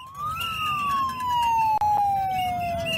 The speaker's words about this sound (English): Whistle, here comes the whistle.